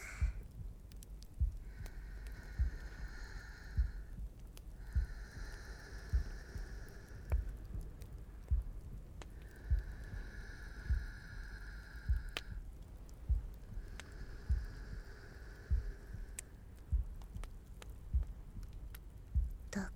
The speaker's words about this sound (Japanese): ほら、心臓の音聞こえるっしょ。